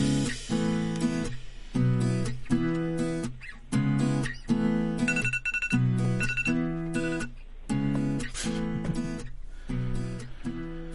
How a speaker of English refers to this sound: Must apologize. The alarm that I set for 9 a.m. just went off now, which makes it 9 p.m., which is great.